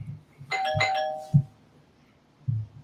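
household object, doorbell ringing

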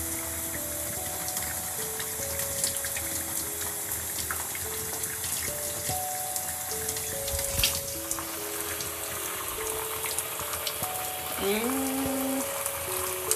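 household object, water running

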